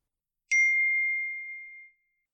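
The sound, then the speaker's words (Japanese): A single clear ding of a streetcar bell at Hiroshima Station, struck once with a sharp attack, then a steady bright tone that rings on and fades out over about a second and a half, with no voices. “路面電車です。これに乗りましょう。”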